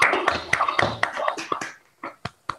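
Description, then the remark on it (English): Scattered clapping from several people at once in an online meeting, unmuted to applaud a speaker after a talk, dense and overlapping at first, then thinning out to a few isolated sharp claps near the end. “I would ask everyone to unmute yourself to clap your hands”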